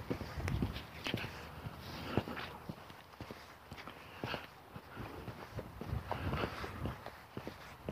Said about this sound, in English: And I walked right by it. It's only a few steps, I'm going back.